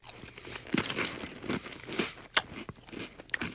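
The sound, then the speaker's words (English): Wet chewing of crunchy, salty, cheesy goldfish crackers soaked in milk as a breakfast cereal, with irregular crunches and soft squelches repeating over a few seconds and no talking. “It's salty, cheesy goldfish with milk as a breakfast cereal.”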